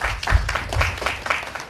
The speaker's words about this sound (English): You can also clap.